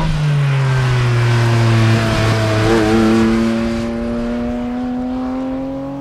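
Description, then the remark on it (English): A loud cup car race engine fitted in a car revs on its own, its tone sagging briefly before climbing in a steady, rising whine over several seconds, with no voices. “It's a cup engine, the cup car engine in this car.”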